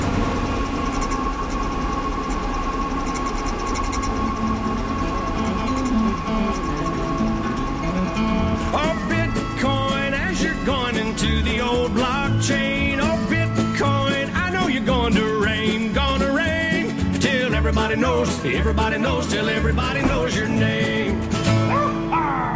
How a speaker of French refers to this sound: ça déborde de câbles, de fils de partout et d'armoires électriques qui montent jusqu'à plus de 2 mètres de haut avec des calculateurs, des ventilateurs et toujours beaucoup d'électricité consommée. Et on entend les petits ventilateurs qui soufflent.